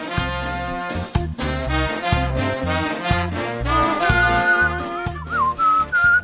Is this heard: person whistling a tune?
yes